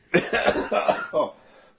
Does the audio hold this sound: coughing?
yes